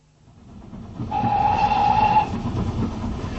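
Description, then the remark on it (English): A train to Chislehurst rumbles and clatters along the rails, swelling up from quiet into a steady roar, with a sustained high whistle-like tone sounding midway. No one speaks. “Not a word until we're on the train to Chislehurst.”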